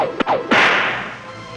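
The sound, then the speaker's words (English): A whip sound effect swishes and cracks twice in quick succession, the second snap louder and followed by a lingering, hissy ring-out. Sharp, with no voices. “It is the college football whip around, Dave. Oh, yeah. Everybody's waiting for this. Thwackety thwack.”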